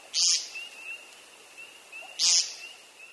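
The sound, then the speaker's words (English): A grouse calls twice, giving one of its two distinctive calls: two brief, raspy bursts about two seconds apart, while a thin, steady high whistle holds faintly underneath; no one speaks. “They have two unique calls, and they even fan out their hind feathers and strut, almost like a tiny turkey.”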